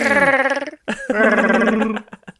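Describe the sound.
A person imitates a Chewbacca roar: two loud, warbling, growly howls with wavering pitch separated by a brief pause, then a few short grunts trailing off.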